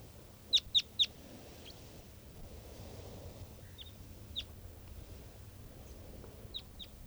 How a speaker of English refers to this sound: And this is another one of the birds. Looks like an adult male here.